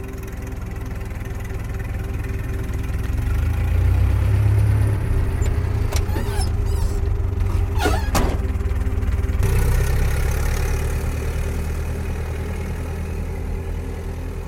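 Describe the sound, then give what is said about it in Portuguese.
A car engine idles with a steady, low droning rumble and a constant hum, with a few faint clicks and rattles partway through. No one speaks. “Não, vamos no meu carro, ele vai me mandar.”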